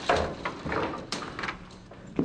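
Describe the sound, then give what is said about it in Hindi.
A door being opened, with a series of clattering, scraping knocks and a final sharp thud, fairly loud with no voices. “तुम दरवाजा खोलो।”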